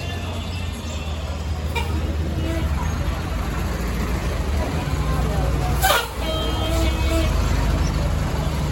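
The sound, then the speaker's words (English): A large bus engine rumbles steadily amid general street traffic in the small town of San Rafael, with a brief burst of hiss partway through and faint voices in the background. “No, that's my bus. Yeah, that's my bus over there.”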